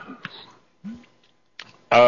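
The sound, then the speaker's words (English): A few short, rough coughs and throat-clearing noises from a person still coughing four weeks after a cold, spaced out with brief pauses and ending in a louder, harsher cough. “excuse me, 4 weeks after I got a cold, I'm still coughing.”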